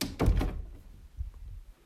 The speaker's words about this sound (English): The moment we close the door behind us.